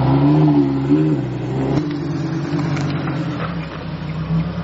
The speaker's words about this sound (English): Oh, wow. A real Lamborghini. And I get to drive it. That is so cool. Oh, my God. I've never driven a Lamborghini before. Let's start it. Oh, this is so cool.